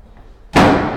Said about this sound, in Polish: Ok, zamykam, proszę Państwa, drzwi i idę w stronę windy.